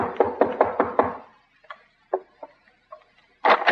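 knocking on a door

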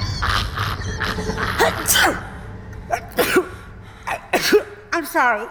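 sneeze

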